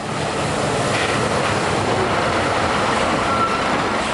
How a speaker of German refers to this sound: Zurück in Skopje im Lastwagenterminal der Zollverwaltung. Ein Lastwagen, beladen mit Occasionsautos aus Westeuropa, schiebt sich durch das Einfahrtstor. Hier überprüft die Zollbehörde diejenigen Lastwagen, die Ware aus dem Ausland importieren.